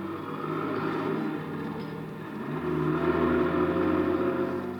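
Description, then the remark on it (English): A car engine in a garage hums steadily, then its pitch and loudness rise midway as the car starts up, revs and pulls away. No voices. “Then somebody enters the garage, eases into the car, and we start up.”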